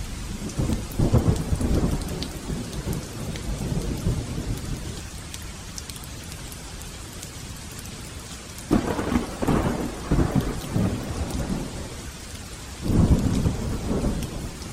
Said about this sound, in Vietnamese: Trời sụp tối rất nhanh, lại trút xuống cơn mưa hung bạo, như mang đến những con rồng tung quậy lồng lộn.